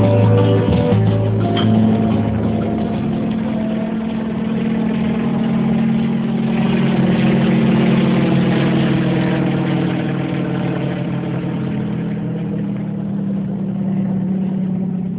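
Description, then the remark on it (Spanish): The engine of an H-10 helicopter drones loudly and steadily as it lands at Central Oriente, an old abandoned sugar mill a few kilometres from Palma Soriano, on 28 December 1958; a continuous low mechanical roar with a slight shift in pitch as it settles down, with no voices. “El helicóptero H-10 se posa en tierras de Central Oriente, viejo ingenio abandonado a pocos kilómetros de Palma Soriano.”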